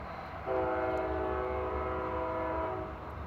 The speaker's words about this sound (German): Da fährt gleich wieder einer von diesen Zügen vorbei. Ich hoffe, der tutet jetzt nochmal, weil das ist der Sound of Canada.